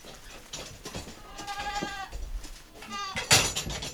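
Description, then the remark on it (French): Several goats bleat in overlapping, wavering calls, one after another, as they come to eat at headlock feeders after milking on a goat farm, amid a busy barn background with clattering and shuffling; a louder bleat near the end. “Donc là en fait elles viennent manger après la traite, ouais.”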